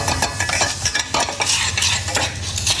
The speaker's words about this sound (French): Du miel d'acacia. D'accord. Ensuite, je prends mon ananas. Que vous avez coupé en tout petits dés. Voilà. Bien régulier. Voilà. Je fais légèrement caraméliser mon miel. Ensuite, je verse mon ananas dedans.